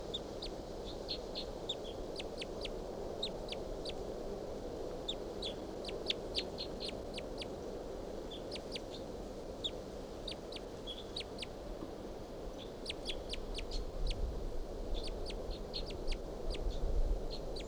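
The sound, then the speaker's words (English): A wild bird calls repeatedly in quick bursts of sharp, high-pitched chirps and trills, pausing between phrases, over a steady low background rumble with no one talking. “Recording, I shot at that bird with a 22 and didn't get him. And this is him.”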